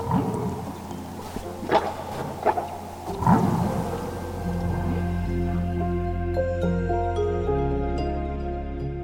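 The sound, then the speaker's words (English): Humpback whale calls echo underwater, several whales countercalling back and forth: a series of low groaning moans and short rising cries in the first few seconds, then long sustained tonal wails, one call seemingly answering another. “sometimes even just to sort of sit with my toes in the water and my eyes closed and listen to the whales, gave me so much insight into how these animals were interacting with each other, because you can hear them countercalling back and forth.”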